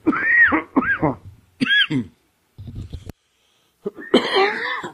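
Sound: cough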